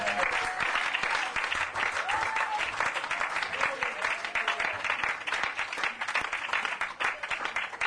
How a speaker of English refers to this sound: Give the Lord a clap for that.